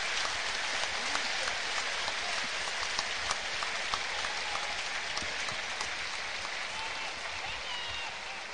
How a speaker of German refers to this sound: Und es gibt Applaus natürlich für den Raul Petretta.